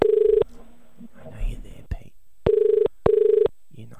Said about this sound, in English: All right. Well, we're dialing the shop in Sydney. Bondi.